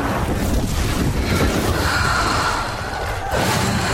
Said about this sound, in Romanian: Se vede marea!